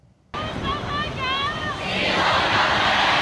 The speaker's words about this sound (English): Hong Kong stays strong, the revolution of our times. The crowd's chants voiced the sentiment of the students after months of protests and unanswered demands.